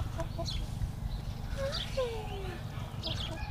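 chickens clucking

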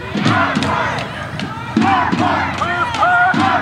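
crowd chanting

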